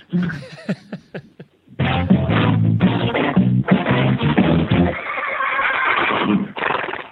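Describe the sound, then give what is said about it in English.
A few short, breathy pulses lead into a loud, drawn-out horse whinny that wavers and trills for several seconds, clear, with a brief final burst at the end. “I have two Daily Winnies today.”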